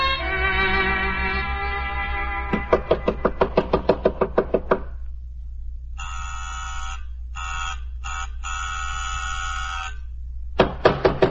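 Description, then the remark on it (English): A rapid burst of loud, insistent knocking on an apartment door, followed by several harsh buzzer blasts, then the pounding starts again; a low steady hum sits underneath throughout. “Tear down the door.”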